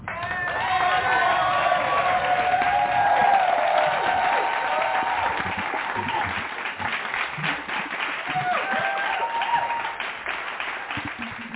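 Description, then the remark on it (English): A church audience in the sanctuary gives a hand clap praise to welcome speakers, clapping steadily and cheering, with whoops and shouting voices rising over dense, continuous applause that stays loud and full throughout before easing slightly near the end. “And we're going to welcome them with a hand clap praise.”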